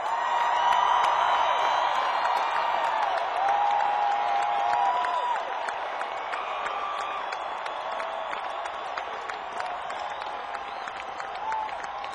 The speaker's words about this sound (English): you to give a big round of applause